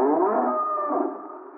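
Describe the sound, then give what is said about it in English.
A single long, loud cow moo, a drawn-out lowing call that holds steady and then fades slightly toward the end, with no talking. “Oh, just poking around the cows.”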